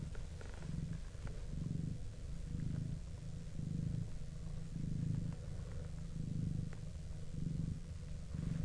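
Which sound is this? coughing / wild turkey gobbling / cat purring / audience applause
cat purring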